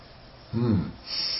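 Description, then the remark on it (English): A single short breath drawn in through the nostrils, a brief snorting sniff with a slightly voiced, rough edge, followed by faint background hiss. “What's that? What's what? Oh, that's breathing.”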